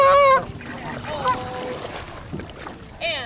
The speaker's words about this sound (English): Geese flock to the bird sanctuary, especially in summer months.